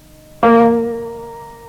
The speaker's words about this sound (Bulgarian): Да чуем още веднъж. Да чуем друг тон от гамата.